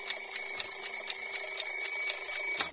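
A children's alarm clock ringing: a loud, rapid stream of evenly spaced metallic pulses over a steady high tone, with no voices, cutting off just before the end.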